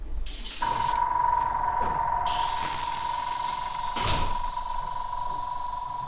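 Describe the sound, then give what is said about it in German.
A spray gun hisses steadily with a broad rushing spray and a sustained tonal whine underneath. It sputters briefly and swells louder partway through, with no voices. It is spraying nanocellulose onto a sheet of paper from a music collection. “Das Knattern, das man hier gerade gehört hat, kommt von der Sprühpistole”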